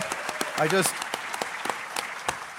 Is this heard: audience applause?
yes